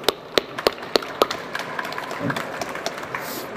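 Audience applause: a few sharp, loud claps stand out at first, then a lighter, scattered patter of hands continues at a moderate level.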